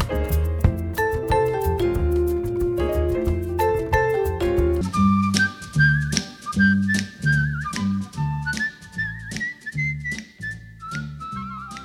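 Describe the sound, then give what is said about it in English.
A whistled melody from a 1963 instrumental recording rises over lively band music partway through, carrying a tune with slight wavering, steady in loudness rather than fading, with horns and rhythm section pulsing underneath. “Whistling off into the distance on 88.1 FM and WCWP.org”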